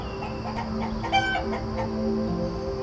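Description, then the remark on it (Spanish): Hens cluck in a loose, irregular series of short calls, layered over a steady background hum, with no one talking. “Acércate a la energía de la gallina o a la del gallo.”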